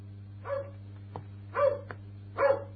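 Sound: hunting dog barking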